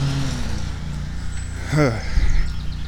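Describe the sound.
A man mowing a lawn runs a lawn mower whose engine drones steadily in a low, buzzing hum throughout, fairly faint, while a brief voice sound rises over it near the middle.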